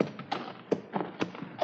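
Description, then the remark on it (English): A horse's hooves clop along at a steady walking pace as it is led over to be watered, about five hollow knocks with a faint scuffing between them, moderately loud with no voices. “I'll bring the horse over there.”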